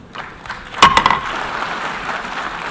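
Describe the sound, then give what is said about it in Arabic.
The president of the UN General Assembly bangs the Icelandic gavel, known as Thor's hammer, sharply two or three times in quick succession to adopt Resolution A, followed by a steady, hissing wash of what sounds like applause that continues to the end. “اقترح الأيسلنديون أن يتسلح الشخص الذي يترأس الجمعية العامة برلمان العالم بمطرقة أيسلندية، ويمثل صوت المطرقة إذانا ببدء الاجتماع أو ختامه أو الموافقة على جدول الأعمال أو انتخاب المسؤولين أو اعتماد قرار أو الدعوة إلى الصمت.”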